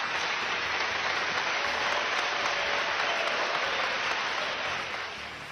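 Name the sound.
applause from parliament deputies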